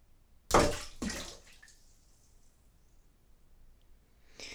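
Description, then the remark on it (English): A loud splash as a fizzing bath item is dropped from about six feet into bathtub water, splashing onto the bathroom rug, followed by a second smaller slosh, then water settling quietly with faint drips and a brief rustle at the end. “Let's stand up and drop it in the water from about 6 feet.”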